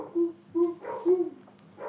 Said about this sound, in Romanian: Ce este? Am auzit un lătrat. Un câine este undeva, un câine lătrat. Am auzit și eu.